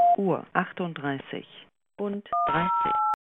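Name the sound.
voicemail recording beep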